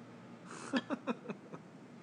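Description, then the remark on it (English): Beer poured into a glass: a short fizzy rush, then about five quick, hollow glugs in an uneven rhythm, each a little softer than the last. Quiet overall, with no talking. “I'm pouring it. You can hear him.”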